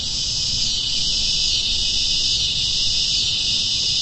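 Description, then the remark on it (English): A dense chorus of cicadas in New Orleans, recorded by Jeffrey and Ruby Haupt for Open Sound New Orleans, drones without pause. It is a loud, steady high-pitched buzz that fills the whole stretch over a faint low rumble of outdoor background noise. “Those are some cicadas recorded by Jeffrey and Ruby Haupt.”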